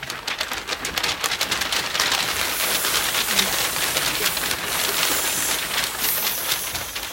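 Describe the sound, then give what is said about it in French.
Heavy rain pours down in a dense, steady roar with crackling patter, loud and continuous for the whole stretch, no voices. “Il décide d'anéantir les hommes sous l'eau et déverse du ciel des torrents de pluie.”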